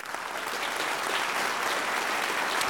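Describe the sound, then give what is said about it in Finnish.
A burst of dense applause, many hands clapping steadily at an even loudness for a few seconds, with no voices over it. “Tässä sulle aplodit siitä hyvästä.”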